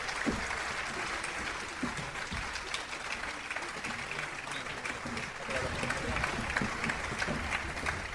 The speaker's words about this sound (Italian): Quindi doppio applauso, doppio applauso.